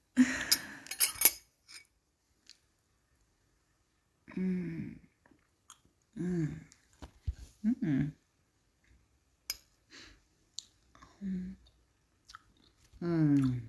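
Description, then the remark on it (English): Someone eats two scoops of ice cream, with quiet smacking and licking sounds, a few brief clinks early on, and short hummed murmurs of enjoyment between bites. “Zwei Kugeln Ice Cream for the best roommate ever.”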